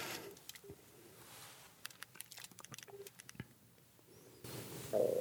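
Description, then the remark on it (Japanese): A quick series of soft taps and clicks as a phone number is dialed to call the job newspaper JOM, followed by a short burst of a ringing tone right at the end. “それ願ってちょっとかけてみます。”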